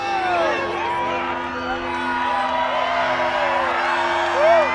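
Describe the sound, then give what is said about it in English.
A large crowd cheers and whoops continuously as totality is reached during a solar eclipse, many overlapping voices rising and falling in excited shouts, with a steady low hum running underneath and a louder whoop near the end. “Controlled by UV rays, the synth gives up for a moment, but not the crowd.”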